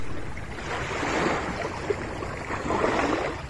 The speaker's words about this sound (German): Sanft umschmeicheln die Wellen des Indischen Ozeans den Strand von Maibur. Der Ort liegt im Südosten von Mauritius, der Gegend, die von der Ölkatastrophe vor einem Jahr am meisten betroffen war.